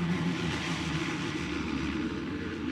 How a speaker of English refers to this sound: Moments later, the DC-3 knifes out of the sky and begins its approach pattern.